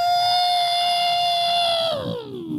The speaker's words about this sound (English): That, of course, is the bunker alarm kettle. It has a kettle on the side. Yeah. Heats water, and then I don't need to explain it.